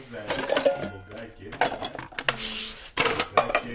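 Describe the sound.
Porridge is scooped onto plates with scraping utensil sounds and a few sharp clinks of dishes, while voices talk over the clatter throughout.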